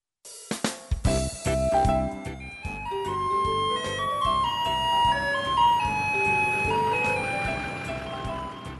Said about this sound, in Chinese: 远远传来熟悉的音乐声，小克听到后开心大喊： 爸爸，爸爸，垃圾车来了！